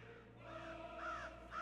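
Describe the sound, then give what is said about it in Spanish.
A crow caws twice in quick succession, harsh, over a steady low background hum, with a fainter call just before. “Graznó, y cuando más cuervos se acercaron, el guerrero supo que los dioses lo habían abandonado.”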